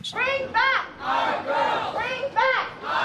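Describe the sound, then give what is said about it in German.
Several dozen demonstrators outside a hotel in downtown Washington, where the Nigerian delegation is celebrating, chant "Bring back our girls" in unison, repeating it in a steady rhythm of loud, rising vocal bursts with harmonic voices swelling together, about three times. “Proteste vor einem Hotel in der Washingtoner Innenstadt.”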